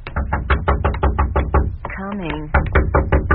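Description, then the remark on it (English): Rapid, loud pounding on a door, a brief ringing doorbell tone cutting in midway, then the hurried, insistent knocking starts up again. “Oh, knocking and ringing both. Somebody must be anxious.”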